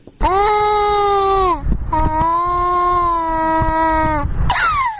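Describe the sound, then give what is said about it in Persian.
A young child cries loudly from hunger in long, drawn-out wails, two sustained cries followed by the start of a third, with brief gasping breaks between them; the child is from a homeless family displaced by war from Badghis, in Herat, Afghanistan. “گریه این کودک از گرسنگی است.”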